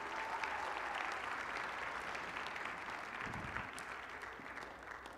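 A crowd claps steadily in sustained applause, a dense crackle of many hands that stays loud throughout and eases slightly toward the end, with no voices standing out.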